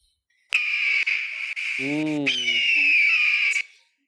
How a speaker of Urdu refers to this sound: چیل. چیل آواز ہے یہ، چیل کی. اور چیل کا جواب بھی درست ہے.